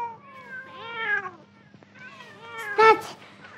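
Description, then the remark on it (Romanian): Several cats waiting to be fed by an old woman meow at once in overlapping, drawn-out calls, first in a cluster of rising and falling cries, then a second louder burst after a short pause. “Stați pisicuțelor că vă dau la toate de mâncare, îndată. Uf, că multe mai sunteți.”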